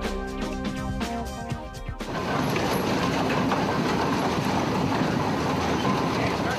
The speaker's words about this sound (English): This traction engine, a steam-powered ancestor of the tractor, dates back to 1917. But here it is, chugging down the streets of Oakland on its first drive in about half a century.